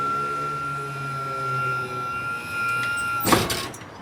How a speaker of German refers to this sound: Kommt unser Fahrgast mit dem Rollstuhl wieder auf die Hebebühne. So, und jetzt geht's abwärts auf die Straße. Bremse am Rollstuhl ist gelöst.